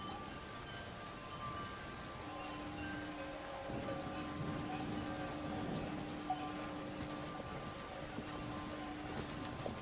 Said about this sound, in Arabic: هذا المطر يهطل ببركة وجود يوسف بيننا.